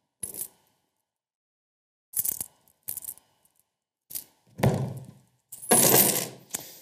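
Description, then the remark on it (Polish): Coins from a collection, including ones from Mexico and Singapore, a coin with Chinese writing and a 20-kopek coin, clink and jingle in several short bursts as they are handled, with sharp metallic chimes separated by pauses, ending in a louder, longer rattle of coins being stirred together. “Wybrałem ze swoich zasobów różne najciekawsze monety.”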